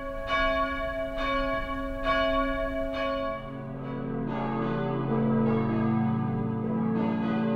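A peal of four steel church bells at St. Barbara in Cologne, Germany rings loudly, first with regular distinct strikes, then overlapping into a dense, continuous clanging wash of tones with long sustained hum.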